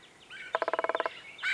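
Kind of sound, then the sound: bird, red-headed woodpecker calls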